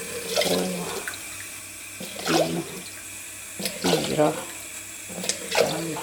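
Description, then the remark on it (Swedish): Water runs from a tap into a pot in a few short, splashy bursts, with faint voices murmuring in between, as water is added for cooking rice, twice as much water as rice. “Och sen tar jag dubbelt så mycket vatten.”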